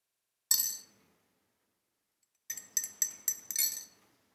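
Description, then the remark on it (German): A spoon clinks against a glass while stirring tea: one bright ring, a pause, then a quick run of five or six metallic clinks. No voices. “Würde das andere Glas rufen, vielleicht musst du mehr rühren.”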